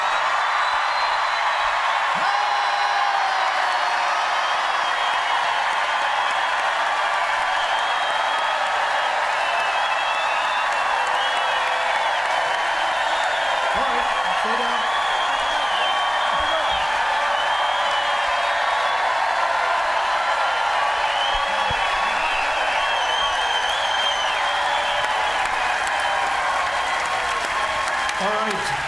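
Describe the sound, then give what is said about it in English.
A large crowd in a tent cheers and applauds wildly and continuously while a group photo is taken, dense clapping mixed with shouts and whoops that stay loud and steady throughout. “When we shoot this, 1, 2, 3, just cheer like bloody mad while he's taking the photo.”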